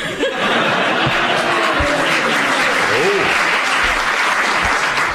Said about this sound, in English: Excellent. I don't know why they're clapping, it's a bit obvious, really, isn't it?